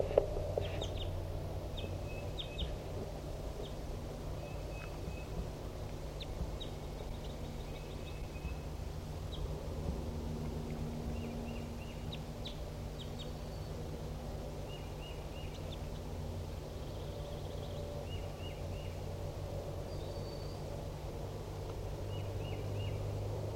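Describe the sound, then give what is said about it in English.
Scattered short chirps and calls from several newly caught captive birds rise over a steady low rumble, coming in irregular bursts with no talking, at 10:30 a.m. “And so Decoy and 4-7 and the other newly caught birds are responding.”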